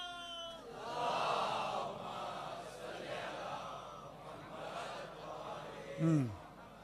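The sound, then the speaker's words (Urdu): A large crowd chants religious slogans in unison, a loud, sustained roar of many voices that rises and falls for several seconds, with a single voice shouting sharply near the end. “مسئلہ یہ ہوتا ہے ایسے نعرے جو لگتے ہیں اس کے بعد میں بھول جاتا ہوں بات کیا ہو رہی تھی”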